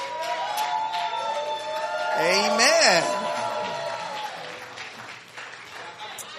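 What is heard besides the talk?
audience clapping and cheering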